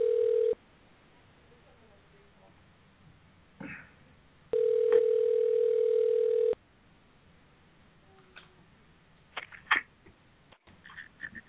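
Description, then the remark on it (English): A telephone ringback tone heard over a thin phone line: the end of one ring, then a single steady two-second ring after a long pause, followed by faint clicks and rustles. “Come on, answer the phone.”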